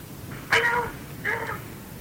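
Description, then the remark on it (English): A cat meows twice, a longer drawn-out call followed by a shorter one, fairly loud against a quiet, slightly hissy background with no talking. “I have a message for you from the cat.”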